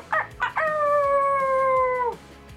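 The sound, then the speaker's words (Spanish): A person imitates a werewolf howl: two short yelps lead into one long, loud, steady howl that slides slightly downward and cuts off after about a second and a half. “¿Por qué aullan los hombres lobo a la luna? Muéstranos cómo lo hacen.”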